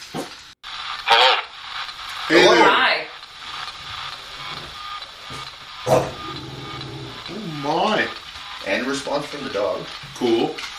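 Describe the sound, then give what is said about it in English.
Steady hissing static from a white noise generator (a spirit box), modified so it picks up few radio signals, fills the background of a recording made at a house, broken by sharp sweeping bursts and brief snatches of warbling, voice-like sounds rising over the hiss. “First off, what you hear in the background is a white noise generator. Some people like to call it a spirit box.”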